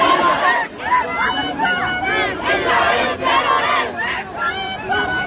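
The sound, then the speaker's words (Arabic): A large crowd of thousands of protesters in the streets of Paris, France, defying a police ban on protests to denounce Israeli massacres in the Gaza Strip, chants and shouts in unison, voices rising and falling in loud, rhythmic waves with a dense roar of many people underneath, continuing steadily throughout. “وتحدى الفرنسيون قرار الشرطة بحظر التظاهر ونزلوا بالآلاف إلى الشارع في العاصمة باريس تنديدا بالمجازر الإسرائيلية ضد قطاع غزة، ما أدى إلى وقوع صدامات بين المحتجين وعناصر الشرطة.”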